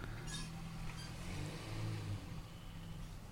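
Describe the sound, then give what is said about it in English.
A car engine idles and rolls in with a low, steady rumble as the house owners arrive back home, its pitch swelling briefly midway as it revs, then settling. Fairly quiet, with no voices. “I hope they take the car into that garage and take a different exit entrance.”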